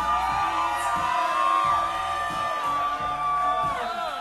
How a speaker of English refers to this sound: Alright, they're all outside, so you gotta scream as loud as possible so they hear you. You got any more than that? Let me hear it.